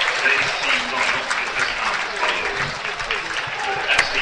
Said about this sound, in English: As the teams now, out they come. And the first cheer at a new ground is quite magnificent.